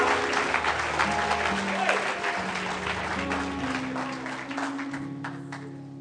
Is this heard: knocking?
no